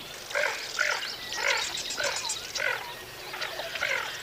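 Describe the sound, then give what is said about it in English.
Rough, raspy grunts of lesser scaup ducks repeat in short bursts roughly every half second over a steady wetland backdrop with faint bird calls, including red-winged blackbirds. “So those are lesser scops grunting.”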